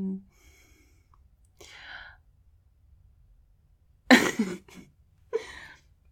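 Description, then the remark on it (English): A sharp cough bursts out after a soft breathy exhale, followed by a second shorter cough a moment later, against an otherwise quiet background with no talking. “Excuse me, coughing.”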